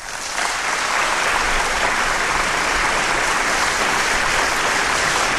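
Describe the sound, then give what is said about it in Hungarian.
A crowd breaks into loud, sustained applause, a dense wash of clapping that starts abruptly and holds steady at full strength throughout, with no voices standing out. “Istenem, de lelkes ma a közönség.”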